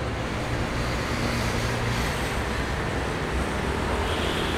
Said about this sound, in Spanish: ¿Cómo que no me oyes? Eso es porque hay mucho ruido de tráfico.